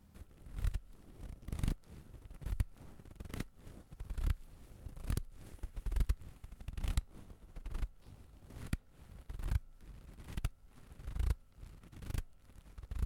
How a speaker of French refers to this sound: Déjà, ça commence par des bruits de pas, des bruits sourds et lourds. Un peu comme ça.